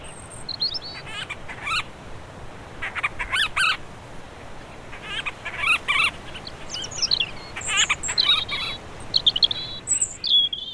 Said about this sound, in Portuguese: Esta é a ave do ano 2021, o painho de monteiro. Esta pequena ave marinha só faz o ninho nos Açores. Não há ninhos desta espécie em mais nenhum local do mundo.